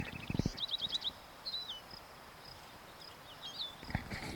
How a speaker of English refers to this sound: Wild bird.